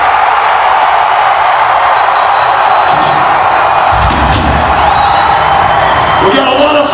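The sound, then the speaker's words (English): A large crowd in Springfield, Illinois screams and cheers in a loud, sustained roar, with whoops and yells rising above the dense wall of noise and a few sharp bursts near the end. “I want you to scream so loud we send the love back to him.”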